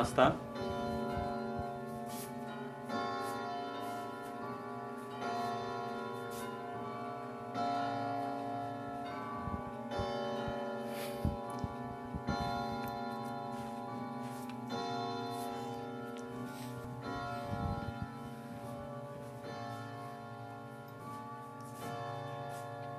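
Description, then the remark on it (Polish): An antique clock strikes twelve in a long, steady series of resonant chimes, each ringing tone overlapping the next, with faint ticking clicks running underneath. “A chciałem, żeby ten zegar był w oryginale. Także lepiej go nie dotykać, z daleka oglądać, będzie stał. Posłuchajmy może 12.”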